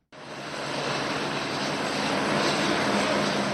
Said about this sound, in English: Helicopters fly in and out of Mozambique's Beira Airport, the center of humanitarian relief operations for Cyclone Idai.